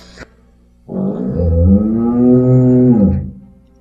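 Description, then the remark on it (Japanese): One long, low, drawn-out moo imitating a cow, loud, swelling in and holding steady for about two seconds before fading. A brief click comes just before it; no one speaks. “これは牛で。”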